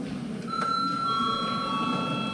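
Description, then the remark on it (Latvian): The chamber bell of the Saeima, Latvia's parliament, rings in a steady, continuous electric tone with bright high overtones, starting after a brief pause and holding evenly over a low murmur of background noise. “Mēs pieņemam zināšanai un lūdzu zvanu.”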